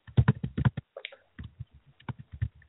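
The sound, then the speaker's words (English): Quick, uneven bursts of keystrokes clatter on a computer keyboard, fairly clear, with a short pause in the middle before the tapping resumes. “Oh, somebody's typing.”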